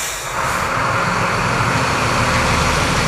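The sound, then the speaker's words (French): A delivery truck's engine rumbles loudly and steadily, a continuous low drone with broad mechanical noise as the delivery driver pulls away after making a delivery, no voices heard. “Ça y est, le livreur s'en va.”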